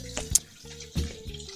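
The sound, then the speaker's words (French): Water runs quietly like a tap as a toilet refills after someone flushes it, a steady trickle mixed with a low humming pipe tone and a few brief splashy bursts, fairly soft, with no voices. “Voilà, alors qu'il y a un bruit de robinet cool à l'antenne. Oui, oui, c'est un robinet, on va dire.”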